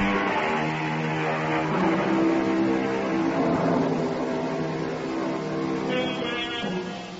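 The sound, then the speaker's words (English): A steady, loud droning engine hum with a dense buzzing tone from a smallish two-engine Canadian de Havilland propeller plane flying at about 2,000 feet and slowly descending over southwestern Texas near the border with Mexico. It holds at a constant level throughout, with slight shifts in pitch and no voices. “Across the southwestern portion of Texas, near the border with Mexico, a smallish two-engine Canadian de Havilland is flying about 2,000 feet and slowly descending.”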